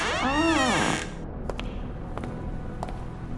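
A door creaks slowly open after its knob is tried, in one drawn-out squeal, its strained tone rising then sliding back down over about a second, followed by quiet background hiss and a few faint, sharp clicks.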